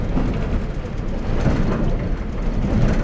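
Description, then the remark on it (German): A steady low rumble of a train rolling over bumpy rail sleepers as it leaves Marseille heading west, with faint irregular clatter and bumps recurring throughout, continuous with no voices. “Über holprige Schwellen verlässt der Zug Marseille in Richtung Westen.”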